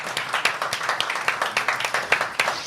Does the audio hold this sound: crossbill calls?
no